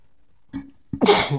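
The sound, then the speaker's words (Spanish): A single loud sneeze: a brief sharp intake of breath, then a forceful, breathy burst that fades out quickly. Nobody speaks. “Buen estornudo.”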